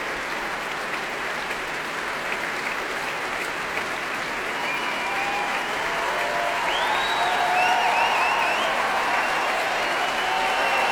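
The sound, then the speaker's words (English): Sustained applause from a large audience fills the Royal Albert Hall after the Orchestre National de France performs The Rite of Spring under Daniele Gatti, applauding the principal bassoon, steady and dense throughout, with a few faint whistles or cheers rising near the end. “Applause there for principal bassoon Philippe Anand.”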